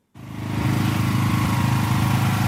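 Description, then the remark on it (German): A power generator in Ukraine, used during power cuts after Russian attacks on the energy supply, runs steadily with a loud, low mechanical rattle and throbbing hum that starts abruptly and holds constant, with no voices. “Vielerorts in der Ukraine rattern die Generatoren, denn die russischen Angriffe auf die Energieversorgung des Landes haben der Infrastruktur am Wochenende einmal mehr stark zugesetzt.”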